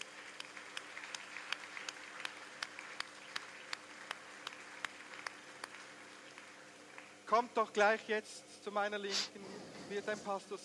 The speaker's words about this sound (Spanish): Un aplauso para los que han orado.